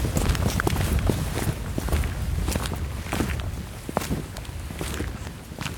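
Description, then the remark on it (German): Footsteps in tap shoes as someone does a bit of tap dancing: a steady stream of sharp, bright clicks and taps in an uneven, lively rhythm, fairly loud throughout, with a low rumbling background and no talking. “Hast du Steppschuhe? Ja, ich wollte ein bisschen steppen eigentlich.”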